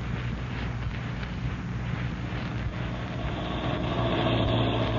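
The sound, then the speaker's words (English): A car engine rumbles steadily as the vehicle drives along to Hyla's Cabins, its low droning hum growing slightly louder toward the end as it pulls up at the door of Shack 6. No voices are heard. “You drove me so close to this door, you can sit right here and still satisfy those nosy ears of yours.”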